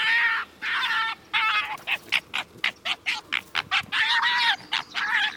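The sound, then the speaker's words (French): A fox makes high-pitched, whistling, nasal cries as it growls and sighs while slowly approaching a dead animal, drawn by the smell of the carcass and waiting its turn to feed: a few sustained whines, then a rapid run of short, regular yelps, ending in longer wavering calls, fairly loud with no talking. “Attiré par l'odeur du cadavre, il grogne et soupire avec un sifflement aigu, tout en attendant son tour.”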